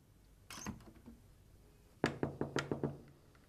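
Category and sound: household object, knocking on a door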